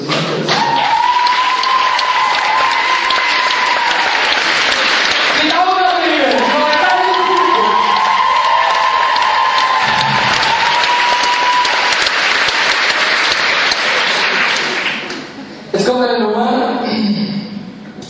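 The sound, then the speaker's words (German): Sustained, loud applause from an audience fills the whole stretch, dense clapping with a steady roar, while a voice speaks over it through much of the middle and again near the end. “Es war wirklich sehr, sehr geiles Publikum.”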